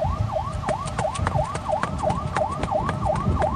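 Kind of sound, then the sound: vehicle, fire engine siren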